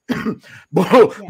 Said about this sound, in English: Sorry, I got a little bit of cough there.